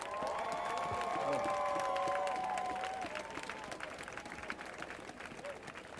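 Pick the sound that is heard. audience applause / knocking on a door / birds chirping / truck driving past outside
audience applause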